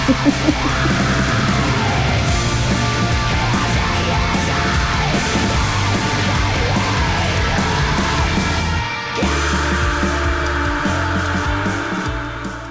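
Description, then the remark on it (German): Harsh screamed vocals ride over a loud, dense rock or metal band playing continuously, with heavy low instruments and a brief dip in the music near the end before it crashes back in. “Das ist Gesang.”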